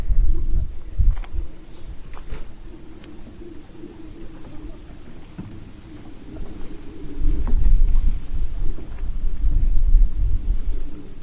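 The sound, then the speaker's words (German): A low, rumbling airplane drone with a steady hum running through it, swelling louder in the latter half, while a few brief bird-like chirps break in now and then. “Aber ein Flugzeug höre ich dafür von irgendwoher.”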